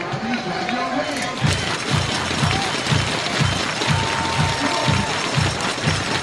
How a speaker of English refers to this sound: Crowd coming to life, equally divided when you have fans from Mexico as well as from North Carolina here, I'm sure.